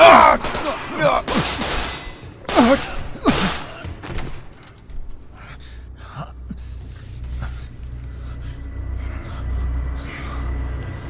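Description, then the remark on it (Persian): A handful of loud, sharp gunshots crack in quick irregular succession, followed by a few fainter pops over a low rumbling background, with a gasp or breath between them. “دیر یا زود، این اتفاق میفته. آره میفته. شلیکن.”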